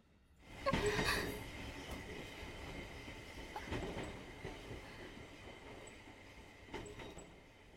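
A train carriage rumbles steadily along the tracks, with a surge of rattling and brief metallic squeals as it sways, then settles into a constant roar with occasional clanks.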